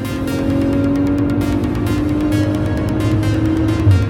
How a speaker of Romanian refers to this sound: Știu că există o adevărată industrie pentru eșapamente și evacuări sport sau pentru sunete aduse în boxele diverselor mașini, dar sunetul Maserati este complet demențial.